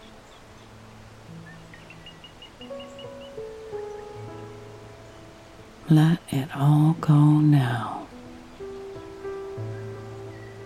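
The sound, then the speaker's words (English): A steady rush of falling water from a waterfall fills the background, with a few faint bird chirps from birds in a forest canopy early on and soft sustained tones throughout, while a calm voice speaks briefly in the middle. “As you listen to the sound of the birds in the canopy and the sound of that beautiful waterfall”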